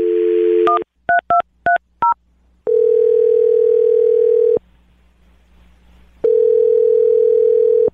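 A steady telephone dial tone, then a quick run of touch-tone keypad beeps, followed by two long ringback tones separated by a pause. The sounds are clear and close with no talking.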